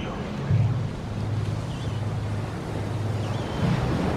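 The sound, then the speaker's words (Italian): Ocean waves break and wash onto the shore in a steady roar, with louder surges every few seconds, a low droning hum beneath, and a couple of faint, high, bird-like calls. “George White era cresciuto con il suono delle onde ad Alhambra, California.”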